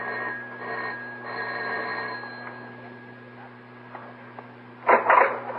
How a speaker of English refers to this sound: But she doesn't answer her doorbell, Mike. Try ringing again.